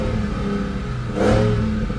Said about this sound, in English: You know, in 2015, I remember you did a piece for NPR about the Charger and how it represented a modern golden era for American muscle cars. It's an absolute beast of a car, and it sounds insane.